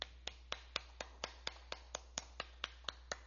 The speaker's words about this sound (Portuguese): Então, se o pessoal que está aqui presente puder homenagear o efetivo da Brigada Militar com uma salva de palmas por 30 segundos.